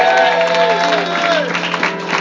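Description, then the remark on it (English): An audience claps and cheers in a steady burst of applause, a hand clap of praise to the Lord, with sustained tonal voices or instruments ringing through the crowd noise the whole time. “Come on, somebody give the Lord a hand clap of praise.”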